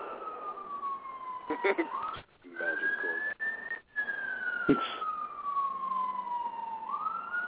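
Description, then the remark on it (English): An ambulance siren wails in long, slow sweeps, gliding up and down in pitch and sounding steady, with a brief faint voice partway through. “Is that what the ambulance is for?”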